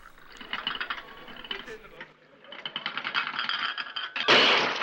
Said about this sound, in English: You pour the coffee with very shaking hands, and then throw the cup against the wall.